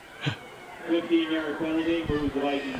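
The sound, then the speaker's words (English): A duck-quack text-message ringtone plays on a phone as a text comes in during a high school football game broadcast at Withington: a run of nasal, buzzy quacks in quick, slightly uneven succession, fairly loud, following a short sound at the start. “A duck quacking.”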